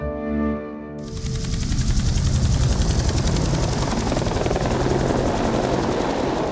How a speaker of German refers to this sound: Mit dem Hubschrauber.